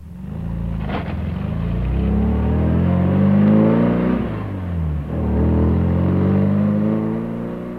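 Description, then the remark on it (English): A car engine catches after a brief click and then pulls away, loud, its drone rising in pitch with a dip as it shifts gear and keeps accelerating. No voices. “John and Mary got into the car and started to drive home.”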